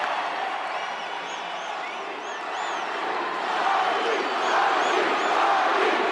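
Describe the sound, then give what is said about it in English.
A large hometown crowd in South Florida roars and cheers steadily for The Rock, with scattered high whoops and whistles rising above the dense wash of voices, swelling louder in the second half. “This is where The Rock's from, King, South Florida, and listen to the hometown crowd.”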